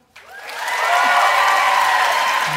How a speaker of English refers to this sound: All right, so now you guys are just going to vote based on applause. Here we go.